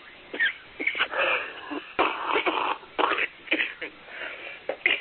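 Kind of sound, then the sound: human body sound, coughing and wheezing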